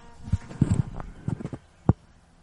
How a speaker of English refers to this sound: Yeah, so that is a donkey that is living near us. Now, I don't know if that's a wild donkey or that is someone's donkey. I bet that's somebody's loose. Donkey.